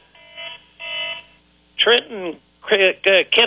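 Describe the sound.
A telephone rings twice in quick, even bursts, fairly loud, then a man starts talking right after the second ring.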